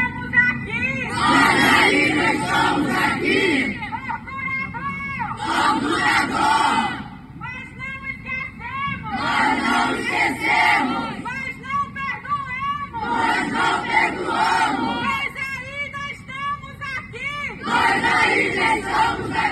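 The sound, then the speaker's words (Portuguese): A crowd of about 100 young protesters with banners and signs shouts in unison, loud rhythmic chants rising in repeated bursts every few seconds, with a steady roar of voices filling the gaps between them. “A manifestação reuniu cerca de 100 jovens, com faixas, cartazes e intervenções artísticas, além de gritos de protesto.”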